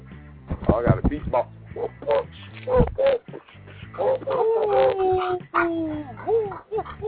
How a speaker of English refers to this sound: But if you want to, she's always silent. And if she don't need it, she starts barking.